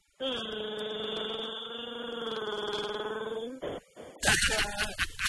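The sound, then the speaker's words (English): A voice imitates Chewbacca gargling mouthwash: one long, steady, rough growl held for over three seconds, then it breaks off and a burst of noisy voices follows. “Chewbacca with mouthwash.”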